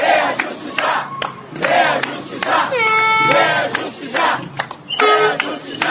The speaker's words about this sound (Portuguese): A mobilização tinha cartazes, faixas, buzinas e apitos. Foram 2 horas de protesto.